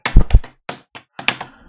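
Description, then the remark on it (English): A foley imitation of a horse's hoofbeats: a pair of heavy, thumping taps followed by several lighter, uneven clops, made by hand with no one speaking. “That's a horse.”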